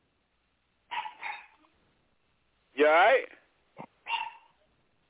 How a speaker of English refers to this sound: That sounds like a dog running behind you. I hear a dog barking. You know, security fucking dog running behind you.